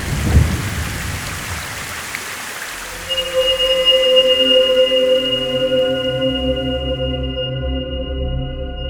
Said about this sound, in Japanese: でもこの雨の中出ていくわけにはいかないし。